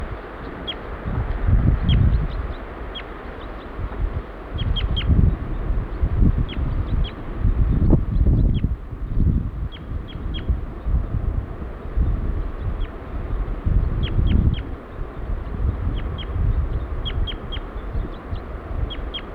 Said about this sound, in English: Female giving flight calls now.